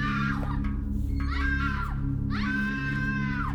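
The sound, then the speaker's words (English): A woman screams three times in fear, each cry high and strained with a sharp rise and slow fall, the last one longest, over a steady low rumble, after seeing hanging human bodies inside a structure. “Nearby servants were alerted by the scream and rushed to enter the structure to find her motionless and screaming in fear.”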